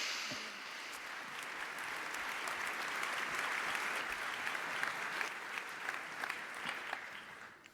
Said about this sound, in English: And please give a large applause to our two speakers.